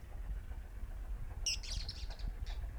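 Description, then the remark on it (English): Several birds sing at once, a tangle of quick, high chirps and warbling notes starting about halfway through, over a steady low rumble of background noise. “Several birds there.”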